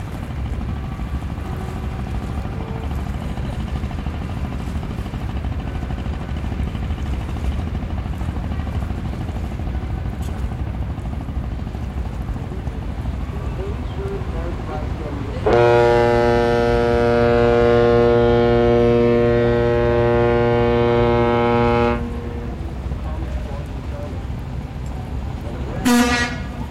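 Busy river traffic of boats of all sizes, including cargo ships, three-deck riverboats, ferries, barge trains and wooden and iron junks: a steady engine rumble and wash of noise, broken by one long, loud, low-pitched boat horn blast lasting several seconds, then a brief toot near the end.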